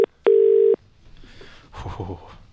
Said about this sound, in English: We're ringing. Here we go.